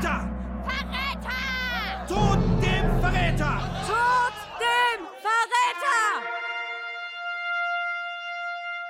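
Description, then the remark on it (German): An angry crowd shouts "Verräter!" (traitor) in a hall during the Two Minutes Hate, many raised voices overlapping over a low rumble for about six seconds, then the yelling breaks off into a sustained, ringing tone. “Die Menge schreit: Verräter! Verräter!”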